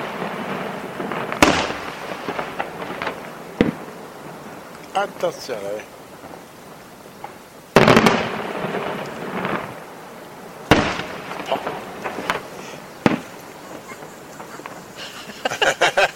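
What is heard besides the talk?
firecrackers exploding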